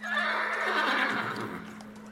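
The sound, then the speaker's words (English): A horse lets out a loud whinny that trails off over about two seconds, with hooves clip-clopping underneath and a steady low hum in the background. No one speaks. “After a little bit of riding, maybe like 10 minutes through this sort of bramble, you actually wind up having to get off your horse at a certain point.”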